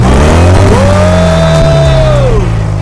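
A car engine roars steadily, then revs up, its whine climbing to a held high pitch before easing back down. Loud throughout, with no voices.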